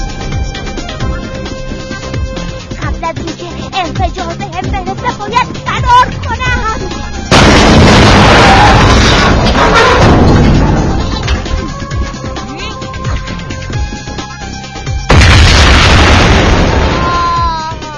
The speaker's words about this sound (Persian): در همین حین رئیس ربک ها در حالی که میخندید، با کنترلی که در دست داشت بمب های انفجاری رو برای نابودی جغله فعال کرد و تمام شهر رو منفجر کرد.